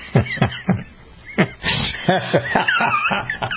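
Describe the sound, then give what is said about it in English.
A black cow moos, starting with a few short grunting calls and moving into longer, wavering lows that rise and fall. The animal sounds fairly loud, with no talking. “She is a black cow, and black cows tend to get out more often than brown cows, in my experience.”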